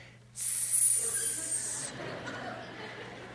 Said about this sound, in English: And then out comes this hot plate with a big fat piece of steak on it still sizzling.